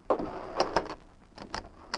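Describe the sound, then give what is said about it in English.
A sheriff's front door is opened shortly after dawn, after a knock, with a few sharp clicks and knocks from the latch and handle spread over a couple of seconds, with no talking. “He walked to the door and opened it.”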